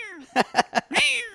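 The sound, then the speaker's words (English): A voice imitates a cat's meowing: a falling mewl, three quick clipped mews, then one longer drawn-out meow, fairly loud with no other sounds. “You really should make a piano cat app that every time someone, it just goes.”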